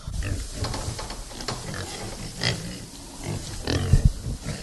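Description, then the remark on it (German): Several pigs grunt and snuffle in a pen, a steady jumble of low, rough grunts with a few louder snorts and a short squeal near the end. “Hier tummeln sich ja alle Schweinchen.”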